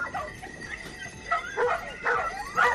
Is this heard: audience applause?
no